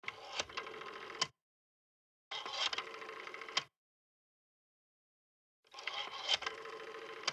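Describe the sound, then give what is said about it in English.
A balding man dials a rotary phone to make a call: three separate bursts of rattling, whirring mechanical clatter, each about a second long, with clear silent gaps between them. Fairly loud, no voices. “He makes a call on a rotary phone.”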